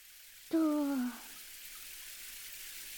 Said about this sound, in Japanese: それじゃあ、シャワーを出して、